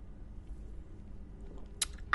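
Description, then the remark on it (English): A quiet sip of beer: low background rumble, then two short, wet slurping bursts near the end, the second louder than the first. No one speaks. “I need Take more beer. Sip. I need a beer.”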